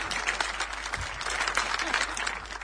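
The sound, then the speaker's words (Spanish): A crowd applauds Lula, clapping steadily in a dense wash of applause, fairly loud and sustained for the whole stretch, with no clear voices standing out. “Aplauden a Lula.”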